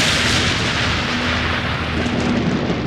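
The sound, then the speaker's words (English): Thunder from a freak thunderstorm in western Georgia in May 2003 rumbles in a steady, heavy roar that fills the whole clip without pause, with a faint low hum running underneath and no voices. “A freak thunderstorm rolls through western Georgia. Sirens started blaring, and then came the rain and lightning.”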